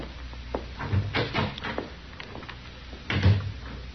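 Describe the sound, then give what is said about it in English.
A door leading back to the cells is worked with a rattle of latch and handle followed by a dull thump, then shut again a couple of seconds later with a heavier knock. No one speaks. “You go on back through that door there.”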